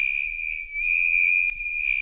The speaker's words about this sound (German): Und auf Platz 3 von dem schlimmsten Geräusche-Siegertreppchen ist das hier. Das ist Kreide, die über eine Tafel kratzt.